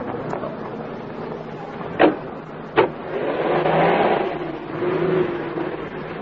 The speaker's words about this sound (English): I say, isn't this exciting? What a nice, comfy car